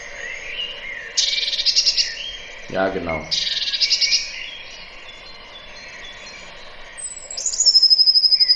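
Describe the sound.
Agitated bird calls at a feeding site: harsh, buzzy bursts repeating in two bouts, then a thin high whistle at the end, with a short spoken reply between them.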